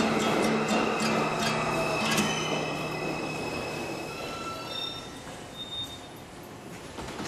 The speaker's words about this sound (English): This is a Brooklyn bound 2 express train. The next stop is Times Square. 42nd Street.